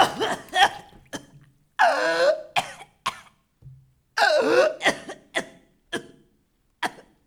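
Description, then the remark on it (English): A person who has fallen into water coughs and sputters, coughing up water: a string of sharp coughs broken by two longer, ragged, wet-sounding gasping fits, with no talking. “Cough it out.”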